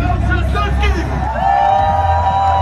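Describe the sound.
A young crowd chants and shouts the candidate's first name at his final campaign speech on the large square before the red ramparts of the old town, a dense, continuous roar of cheering with rhythmic voiced calls rising above the hubbub and a sustained shouted note near the end.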